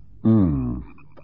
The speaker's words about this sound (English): Must be millions of them in those marshes. The frogs.